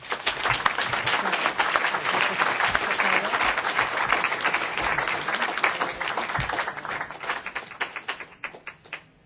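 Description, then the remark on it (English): An audience claps steadily, a dense wash of many hands that holds strong for several seconds and then thins into scattered individual claps as it fades out. “So let's applaud them.”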